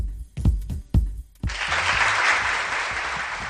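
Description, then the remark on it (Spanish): A few dull thumps, then a crowd bursts into steady applause, a dense, sustained wash of clapping that stays fairly loud to the end, with no one talking. “este aplauso porque hemos conocido también que la concentración motera invernal Motauros”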